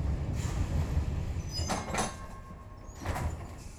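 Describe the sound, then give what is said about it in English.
A train rumbles low and steady while brakes squeal faintly and several heavy jolts and clunks break through as it slows, with no voices. “The train suddenly slows. He grabs for the back of the seat as it lurches to a stop.”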